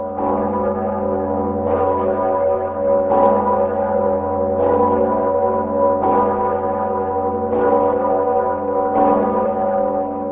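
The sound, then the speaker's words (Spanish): The large Sigismund church bell tolls at a slow, steady pace, about seven loud strikes in a row, each leaving a deep, resonant hum that carries over into the next. No one speaks. “El badajo de la campana Segismundo se rompió el pasado 15 de junio al celebrarse en la República Checa las elecciones legislativas.”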